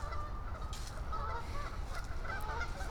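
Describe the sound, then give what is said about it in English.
Several geese honk repeatedly in an agitated, overlapping clamor while having some kind of conflict, over a steady low outdoor rumble. “Geese are having some kind of conflict.”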